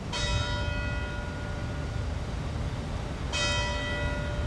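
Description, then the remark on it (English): The bell in the bell tower of the antebellum Rutherford County Courthouse rings twice, the strikes about three seconds apart, each leaving a long, shimmering resonant hum that lingers over steady outdoor background noise. “Beneath the bell tower of the antebellum Rutherford County Courthouse”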